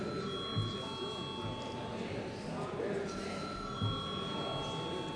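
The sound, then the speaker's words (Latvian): A parliament voting bell rings continuously for several seconds before deputies vote on a proposal, in a steady, unbroken electric tone, with a low murmur of voices and shuffling underneath. “Lūdzu zvanu.”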